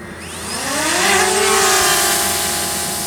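A drone hovering overhead: its rotors whine in a dense buzzing hum that climbs in pitch over the first second, then holds a steady, loud tone with no voices.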